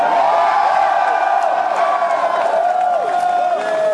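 A large crowd gathered in front of Sparty for a hastily called press conference announcement cheers and whoops outdoors, a dense, steady roar of many voices with scattered shrill yells rising over it, sustained and loud throughout.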